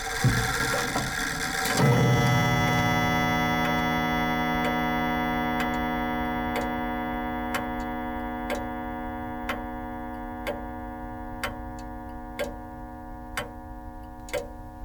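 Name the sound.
clock ticking tick-tock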